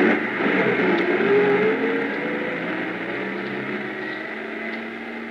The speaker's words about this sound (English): I stood there in the snow watching the headlights of the truck move away. Finally, they swung around the bend and disappeared.